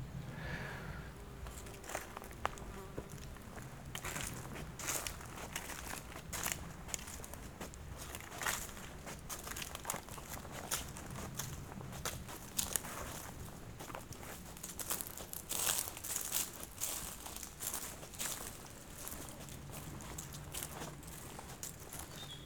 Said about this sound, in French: Il y a ce craquement des feuilles